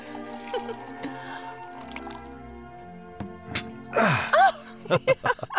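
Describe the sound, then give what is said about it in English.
Wine glugs briefly into a glass, its pitch rising as the glass fills, with a few quick liquid splashes afterward, all over a soft sustained musical backdrop. “Would you like some more wine, husband? Well, only if you're the one pouring it, wife.”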